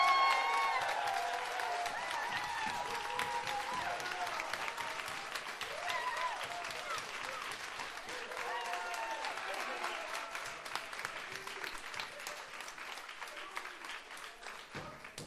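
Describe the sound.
An audience claps to vote for a contestant to advance, a dense patter of many hands for about fifteen seconds with some cheering and voices mixed in, loud at first and holding level throughout.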